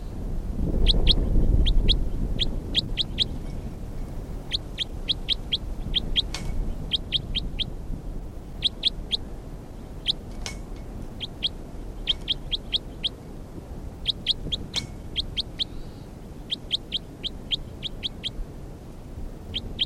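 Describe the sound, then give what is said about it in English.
Bird calls in field recording 326 repeat throughout in quick clusters of high, sharp chirps, three to five notes per burst at a steady rhythm, over a constant low rumble of background noise that is heavier at the start. “This is bird 326.”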